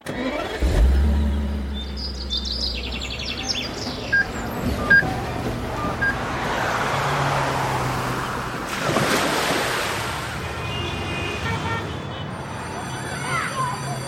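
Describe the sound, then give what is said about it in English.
An Audi Q2 SUV's engine starts with a deep low rumble, then the vehicle drives off amid a steady rushing, wind-like roar that sounds almost like surf, fairly loud throughout. “The new untaggable Audi Q2, launching this weekend.”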